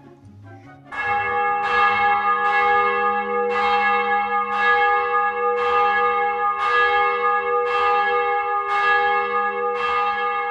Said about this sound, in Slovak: Opatrne ho zavesili na zvonovú stolicu a Matej pomocou dlhého hrubého povrazu začal hýbať zvonom. Ozval sa zvučný tón, príjemný ľudskému uchu.